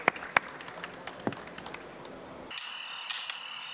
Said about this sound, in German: Großer Applaus an euch beide, bitte.